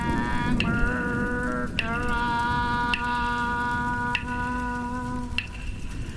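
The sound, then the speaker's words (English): Steady rain falls with a constant hiss, while sustained musical tones hum over it and brief soft taps break through every second or so. “Would you to focus on the rain?”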